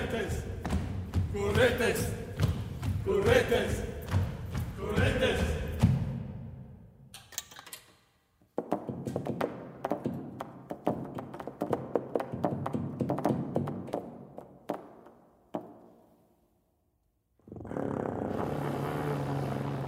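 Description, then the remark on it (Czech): Opening of Kontrafakta, a 2013 piece by Flomenezes for brass quintet (two trumpets, horn, trombone, tuba) and electronics: loud sustained brass chords give way to a pause, then a dense stretch of sharp tapping and popping attacks, silence, and a held tone returns. “Takto zní začátek skladby Kontrafakta žesťového kvintetu, který Flomenezes zkomponoval v roce 2013 jako kompozici pro dvě trubky, lesní roh, trombon, tubu a elektroniku.”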